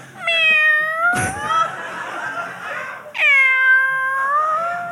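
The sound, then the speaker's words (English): A person imitates a cat, giving two drawn-out, rising meows separated by a brief pause and a sharp click, loud with no other talking. “She meows to me.”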